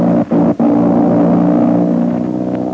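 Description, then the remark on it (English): A loud, steady airplane engine drone with a low, humming pitch, briefly cutting out twice near the start before droning on evenly, with no voices, from the radio drama Terry and the Pirates. “Yes, that's an airplane engine, and Jude Hennig is in a bad spot.”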